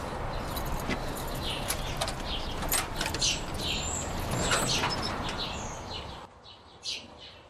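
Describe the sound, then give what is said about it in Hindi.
Keys jingle and a lock clicks as a door is unlocked and pushed open, over a steady rustling background that falls quiet near the end. No one speaks. “एक मिनट यहाँ रुके, मैं जरा दरवाजा खोल लूँ।”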